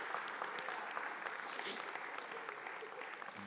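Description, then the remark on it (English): An audience applauds steadily, a dense wash of many hands clapping at an even level for a few seconds with no voices rising above it. “Could you guys give them a round of applause?”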